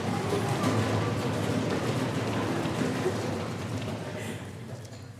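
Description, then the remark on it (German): Quick, pattering footsteps of men running back to Jerusalem, a dense steady rhythm of feet on the ground that stays fairly loud before fading slightly toward the end. “Rennen, wir müssen auch nach Jerusalem rennen. Alle sollen es erfahren. Noch schneller!”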